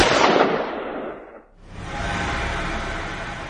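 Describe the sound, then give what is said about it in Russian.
A single loud shot from an SVD sniper rifle cracks out, its echo rolling away over about a second before a steady, rushing noise swells up and continues to the end. “И успеваю нажать спусковой крючок СВД на долю секунды раньше, чем он.”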